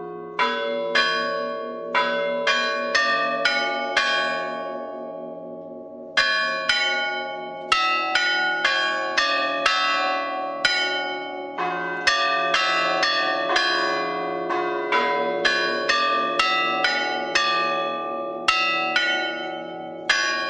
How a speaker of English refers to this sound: However, to give Harvard its due, they even set up a club of bell chime lovers there, and local bell ringers made attempts to master the orthodox tradition of bell ringing. Listen to a recording of Harvard students ringing these bells.